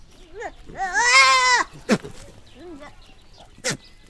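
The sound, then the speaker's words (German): Three young goat kids bleat in a small yard enclosed by mud huts: one long, loud, quavering cry dominates, with a couple of shorter, softer bleats around it and two brief, sharp noisy bursts in between. “4 Hühner und 3 kleine Zicklein.”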